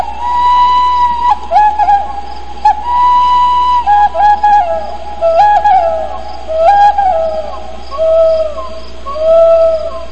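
A Native American flute plays a slow, breathy solo melody of long held notes with small slides and quick ornamental flutters, unaccompanied over a low steady hum.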